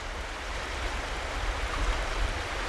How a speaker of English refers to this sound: He took us to see it. It's called the Big Wood River.